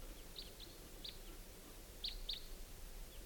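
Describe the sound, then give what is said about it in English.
Two birds calling as they fly in at about 5:30 p.m.: several short, high calls ring out in scattered bursts, a pair of sharper chirps near the end, over a steady low outdoor rumble with no one speaking. “Bird coming in about 5:30 p.m. Got two birds.”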